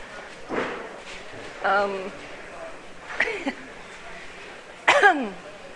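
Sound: coughing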